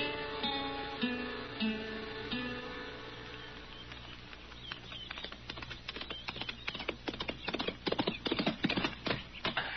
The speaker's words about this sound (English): Ah, he's a good horse